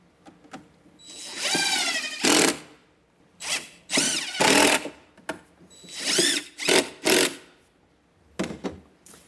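Tradeswomen's power tools whir in a series of loud bursts, a drill revving up and down in pitch several times with brief pauses and clicks between runs.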